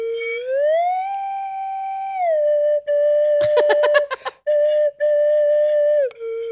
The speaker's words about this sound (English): The slide whistle.